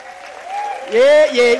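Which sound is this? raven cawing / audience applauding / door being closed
audience applauding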